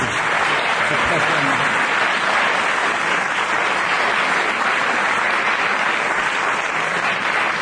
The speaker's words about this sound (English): Let's have a huge round of applause for that, ladies and gentlemen.